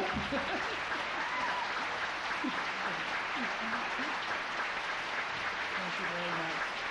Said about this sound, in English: That's incredible. I don't know why y'all are clapping for yourselves. Thanks for clapping for yourselves.